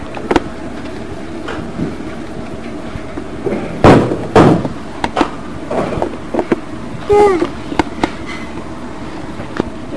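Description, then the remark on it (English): A door to the upstairs is pushed shut with a couple of solid thumps midway through, surrounded by scattered clicks, knocks and household rustling, with a brief voice sound in the background. “Would you close the door to the upstairs, please?”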